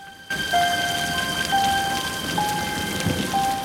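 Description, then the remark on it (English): A heavy downpour on a street hisses steadily and loudly, a dense wash of rain noise that starts abruptly and continues throughout, with faint sustained tones ringing over it. No one speaks. “Her grandfather stares down at the downpour, his face tired and haggard.”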